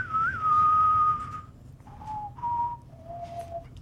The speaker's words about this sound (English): The other one is I can whistle most Western theme songs. Oh, do one.